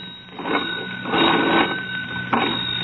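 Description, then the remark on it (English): An old crank telephone bell rings in a rattling, continuous jangle as someone cranks it to call another party, swelling in a few bursts over a few seconds, fairly loud, with no voices. “hoist the receiver and ring old man Douglas”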